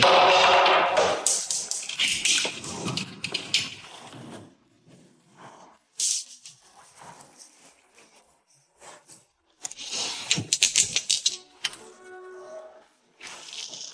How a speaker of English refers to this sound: So I'm going to buy two dice. Roll both of them. I'll add that number together and hope that it's on the train.